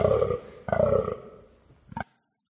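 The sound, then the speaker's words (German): An original recording of a female red deer call answering a stag's rutting call: two drawn-out, throaty, moaning bellows followed by a short, clipped grunt, fairly loud, with no other talking. “Genau, also das war die Antwort der Hirschkuh, ne, auf deinen Brunstschrei”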